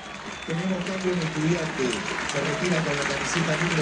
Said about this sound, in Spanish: Muy aplaudido Cristian Medina.